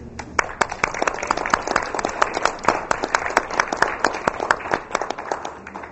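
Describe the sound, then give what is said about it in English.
An audience applauding members of a redistricting task force as they stand at an evening presentation, dense overlapping claps with a few sharp standout hand claps, sustained at an even level for several seconds with no talking. “But before we get started, I would like all members of the redistricting task force that were able to make it this evening, please stand, because we need to give you a huge round of applause.”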